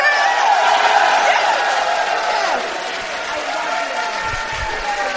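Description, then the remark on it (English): A crowd applauds and whoops in a steady, dense wash of clapping and cheering voices that holds for about five seconds, easing slightly toward the end. “Round of applause.”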